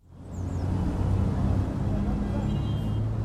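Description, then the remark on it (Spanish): A steady, dense rumble of city traffic in Micrópolis, a city designed especially for children, fills the scene, with low engine drone and a continuous wash of road noise at moderate volume, no single vehicle standing out. “Pues fíjate qué tráfico, es que te llevo a una ciudad, pero a una ciudad especialmente ideada para los niños.”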